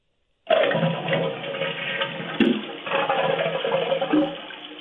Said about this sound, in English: So flush it now.